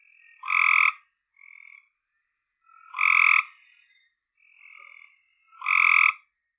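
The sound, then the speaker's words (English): A Cope's gray tree frog gives its mating call in Wisconsin in the evening: three loud, harsh buzzy trills about a second long each, spaced evenly with softer buzzy notes between, with no other sounds. “Cope's gray tree frog.”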